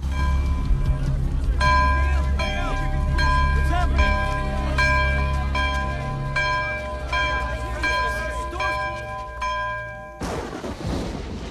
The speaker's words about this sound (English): Two monks come running up to a small monastery perched on top of a hill. The vampires approach the bottom of the hill, and the monks ring the monastery's bell.